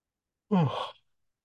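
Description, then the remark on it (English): A single breathy yawn, about half a second long, with a voiced tone sliding downward into an airy exhale, alone against silence. “One more yawn.”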